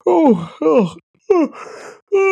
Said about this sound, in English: I did a hiccup and a cough into a yawn.